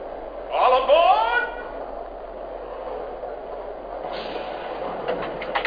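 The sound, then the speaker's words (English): Passenger train number 15, the Cavalier, idles on track 2 at a station with a steady low rumble and hiss, while a voice briefly announces Cincinnati near the start and faint metallic clicks come in toward the end; the conductor gives a highball signal to go. “Cincinnati, on track 2, train number 15, the Cavalier.”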